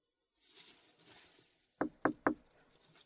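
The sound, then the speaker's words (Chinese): Three sharp knocks on a door in quick, even succession, fairly loud, from a customer with an appointment arriving at an ear-cleaning shop, following a stretch of soft rustling background noise. “我还没叫号呢，敲门了，帮他开门吧。”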